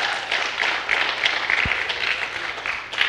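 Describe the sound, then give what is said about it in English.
Steady applause from a crowd for the kids at a Vacation Bible School, a dense rush of many hands clapping that holds at an even level for a few seconds without a break or any voices over it. “Give the round of applause for the kids.”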